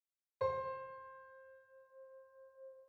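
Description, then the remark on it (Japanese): A single piano key, pressed with the right hand, is struck once, with a sharp attack and low thump, then rings out as a clear sustained tone that slowly fades, beating gently, with no talking. “ピアノの音が鳴ると、同時に球体が光り輝き出します。”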